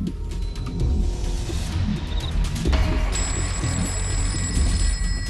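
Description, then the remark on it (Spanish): A telephone rings steadily with no one picking up, its bright tone sitting over a heavy low rumble like a running engine. No voices are heard. “Hablaban muy a menudo, pero esa vez nadie respondió al teléfono. Lo intentó de nuevo sin resultado.”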